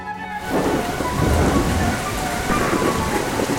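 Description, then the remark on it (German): Steady, dense rain pattering outdoors during a recording at the Schwetzingen Festival (Schwetzinger Festspiele), with a low rumble of thunder underneath, a continuous loud wash of drops filling the whole stretch with no voices. “Dann hört man das Geprassel des Regens während der Aufnahme.”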